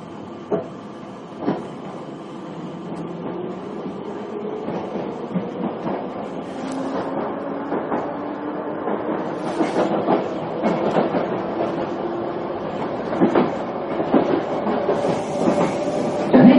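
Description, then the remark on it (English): A London Underground Piccadilly line train, a service from South Harrow to Rainers Lane, rumbles along at speed with a steady low roar, rising motor whine and repeated sharp clicks and clatters from the rails, continuous throughout. “Please mind the gap between the train and the platform. This is South Harrow. This is a Piccadilly line service to Rainers Lane.”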